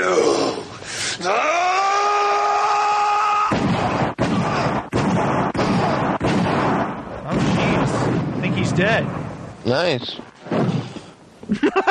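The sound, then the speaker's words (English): A dull body thud sound effect lands right after a drawn-out, rising moan, then people speak briefly over a few more sharp impacts and a wavering cry. “I always love the body thud.”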